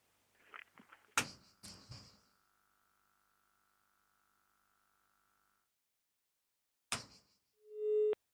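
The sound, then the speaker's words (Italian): Telephone handling clicks, then a faint, steady line tone hums for several seconds over an otherwise silent line as a caller phones an Italian shelter for LGBT people but says nothing, followed by another click and a short, loud electronic beep at the end. “Bene, questo ha telefonato ma non ha parlato.”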